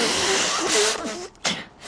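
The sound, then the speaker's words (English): A single sneeze, with a short wavering, breathy build-up and then one sharp burst of air near the end, set against a steady background hiss. “Bless you.”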